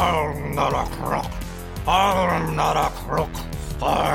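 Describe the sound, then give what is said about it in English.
A person imitates a dog's growl: a low, throaty rumble, fairly loud, rising and falling in several surges over about four seconds, with no other sounds. “growled, jowls shaking.”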